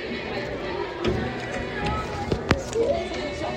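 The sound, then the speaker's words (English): A crunchy bite into an all-beef hot dog: a few sharp, crackling snaps spread over a few seconds, with a sharper crack near the end, over a steady low background hum. “You guys are going to hear a live bite, a live crunch from me at this glizzy.”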